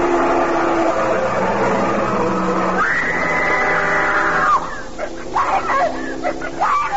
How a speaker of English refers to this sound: It was no coincidence. The truck had tried to run me down. And it would have if she hadn't screamed.